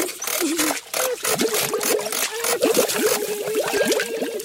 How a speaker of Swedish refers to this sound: Oj, så tungt! Och det skvalpar. Är det en hink med vatten? Nej, ingen hink.